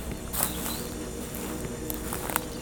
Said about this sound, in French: Je marche doucement